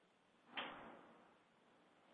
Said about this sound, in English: That's nice. Hope you guys can hear that. Rolling, rumbling thunder through the Red Rocks.